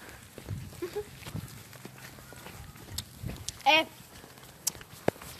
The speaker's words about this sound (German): Nein, da war ein Pferd. Das ist ganz normal. Okay, normal. Das sah aber nicht gerade groß aus. War auch ein Pony.